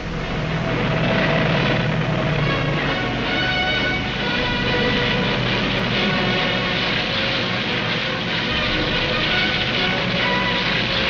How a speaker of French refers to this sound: Sans répit, les avions allemands s'envolent vers l'Angleterre. Ils bombardent nuit et jour les buts militaires de la capitale anglaise.